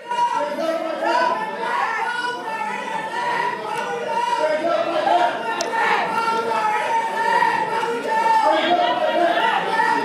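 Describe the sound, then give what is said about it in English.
A crowd of protesters screams and shouts in the background during a legislative session as a bill is introduced, a dense, continuous wash of many overlapping voices that holds a steady loudness throughout, with occasional sharper cries rising above the din. “What they're screaming in the background there.”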